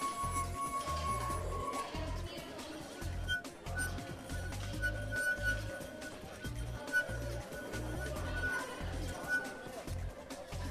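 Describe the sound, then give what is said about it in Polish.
Wet fingers circle the rims of four wine glasses, each holding a different amount of water, drawing thin, sustained ringing tones at a few different pitches over background noise with low rumbling thumps. “Pokażę, jak można na nich grać. W każdym jest inna ilość wody.”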